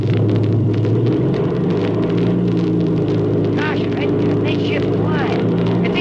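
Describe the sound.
A loud, steady airplane engine, warmed up for takeoff, drones with a deep, continuous rumble throughout, unbroken, while muffled voices briefly speak over it near the end. The plane is new, straight from the factory.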